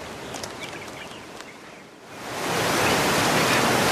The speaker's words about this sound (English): Look at that. Water just pouring out of that rock wall into a pool.